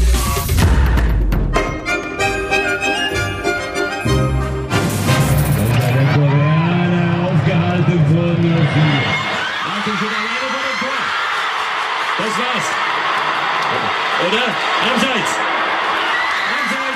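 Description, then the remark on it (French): A dense crowd of football supporters massed on a square in Berlin erupts in a loud collective outcry of dismay as they watch the German team's defeat in Russia, voices rising and wavering together in groans and shouts that carry on continuously, with some musical sound briefly at the start. “Pas besoin d'image pour que vous compreniez ces cris d'effroi. C'était dans la foule qui s'était massée sur une place de Berlin cet après-midi, où les supporters ont donc assisté à la déroute allemande en Russie.”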